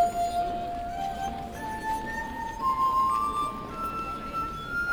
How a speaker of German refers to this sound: Wenn man Wasser in die Gläser füllt, wird der Ton tiefer. So findet man die Töne, Glas für Glas. Man muss so lange rumprobieren, bis man eine Tonleiter hat.